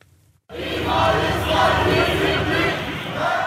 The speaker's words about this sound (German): 1. Mai in Istanbul. In der Nähe des zentralen Taksim-Platzes rennen Journalisten hinter Polizisten und Polizisten hinter Demonstrierenden her. An einer Straßenecke bringt die Polizei die Protestierenden zum Stehen.